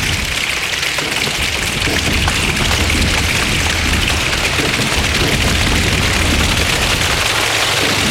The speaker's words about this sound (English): And they're probably manufacturing that sound as well. Stamping their feet.